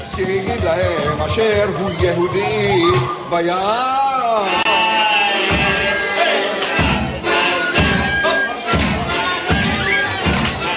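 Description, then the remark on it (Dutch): A crowd of children makes a loud, continuous din of wavering shouts and jeers, joined partway through by bursts of foot stamping, table drumming and rattling Purim graggers in an irregular, rowdy rhythm, drowning out the name Haman during the Purim reading of the Esther scroll in a synagogue. “Ze stampen met hun voeten, trommelen op tafels en ratelen met hun Purimratel.”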